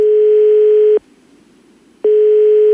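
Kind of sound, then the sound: signal or alarm, telephone ringing tone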